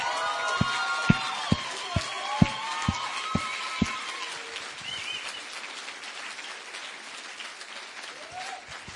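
An audience applauds in a dense, steady wash of clapping, with several sharp, evenly spaced louder claps standing out early on and some high whistling cheers over the crowd before it gradually thins.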